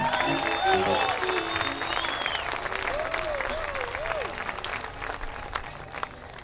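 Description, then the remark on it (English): A crowd applauds bluegrass banjo player J.D. Crow steadily for several seconds, a dense wash of clapping with scattered whistles and cheers rising and falling over it, holding fairly loud throughout. “J.D. Crow, a nice hand for J.D.”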